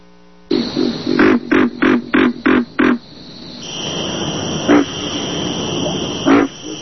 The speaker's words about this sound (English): What's that? It's a pig frog.